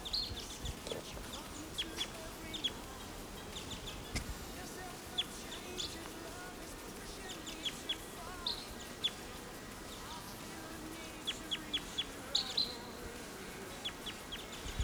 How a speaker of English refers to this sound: Here's a wild bird right above the camp.